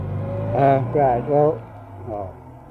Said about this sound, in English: Perhaps better wait until the car goes. Road passes, yeah.